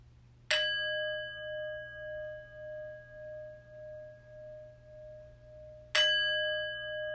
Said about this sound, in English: The chimes will call us to prayerful meditation.